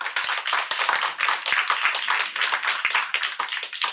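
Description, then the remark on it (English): An audience claps steadily for several seconds to show its opinion in a vote, a dense, even patter of many hands with sharp individual claps poking through, no voices over it. “So clap right now if you think, yes, millennials will be left behind.”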